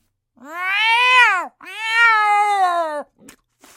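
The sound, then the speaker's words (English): A black cat lets out two long, drawn-out meows back to back, loud, each rising then falling in pitch, followed by a brief faint rustle. “Is that your cat I see over there?”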